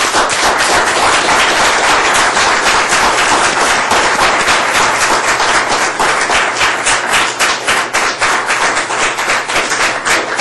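A crowd applauds steadily, dense overlapping claps at a loud, even level for about ten seconds, with no talking over it.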